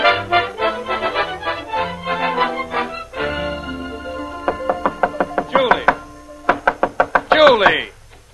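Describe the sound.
Someone bangs hard on a lady's bedroom door, a rapid series of about a dozen loud thumping knocks in uneven bursts, following a few seconds of voices talking.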